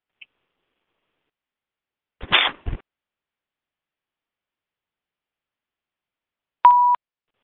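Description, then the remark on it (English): Mostly silence, broken by two quick rustling clicks like a handset being handled, then a single clear, steady electronic phone beep lasting under half a second near the end, as a phone on a conference call is muted because of static. No one speaks. “I'm getting some static, so I'm going to mute the phone.”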